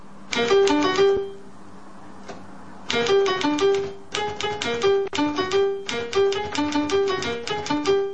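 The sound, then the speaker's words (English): Bursts of rapid keystrokes as a man types on a typewriter that plays different musical notes as it types on the page, each strike sounding a bright pitched note, forming quick melodic runs with a short pause near the start before the tapping resumes steadily. “as you type on the typewriter and as it types on the page, it actually plays different notes”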